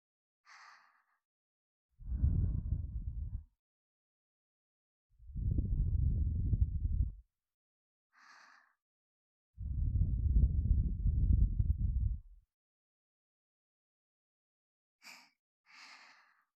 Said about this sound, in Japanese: お耳をふうふう、温かな吐息、いかがですか？